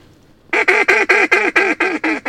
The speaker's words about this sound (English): That was a pair of mallards. And this late in the season, they're paired up a lot.